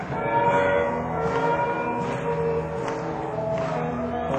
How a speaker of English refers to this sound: And in my dream, I heard a train.